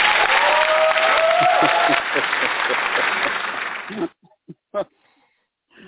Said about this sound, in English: Audience, give him a round of applause.